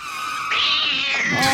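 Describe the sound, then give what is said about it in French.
A voice imitates the drawn-out, strained yowl of a dying cat, a single wavering cry that rises in pitch partway through and stays loud for over a second. “Pas comme mon chat qui nous a tristement quitté au son d'un...”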